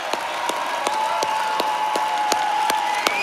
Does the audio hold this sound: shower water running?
no